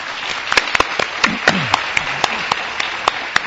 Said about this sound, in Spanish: La verdad es que mucha gente, no se pedía un aplauso para él.